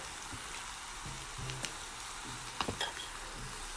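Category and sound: food or drink, meat sizzling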